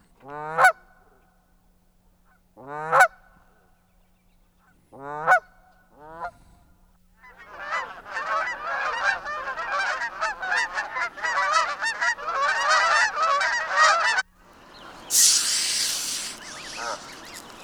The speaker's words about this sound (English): Next up, another classic, the Canada goose. Let's give a listen to these honkers.